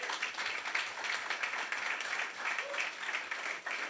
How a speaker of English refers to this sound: Can you guys give them a huge round of applause?